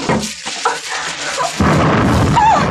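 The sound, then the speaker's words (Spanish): A deep, muffled boom bursts in partway through, followed by a loud, sustained roaring rumble like an explosion inside a burning chalet while the flames are being fought. No voices are heard. “Mientras tanto, Kalim luchando contra las llamas y las explosiones que se han producido posteriormente dentro del chalet.”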